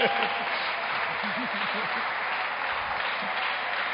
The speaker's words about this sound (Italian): Ragazzi, piove, si è lodato Gesù Cristo. E allora, anzi, facciamo un applauso, Signore.